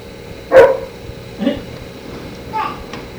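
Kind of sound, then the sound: animal, dog barking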